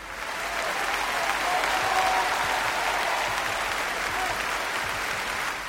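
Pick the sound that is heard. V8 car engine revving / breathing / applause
applause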